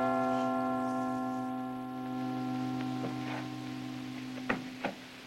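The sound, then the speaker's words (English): The bells of the Cathedral of Notre Dame, rung by the bell ringer Quasimodo, ring the angelus with a rich, sustained hum of overlapping tones, steady and fairly loud, with a couple of sharper strikes near the end. No one speaks. “I have never heard a more beautiful angelus.”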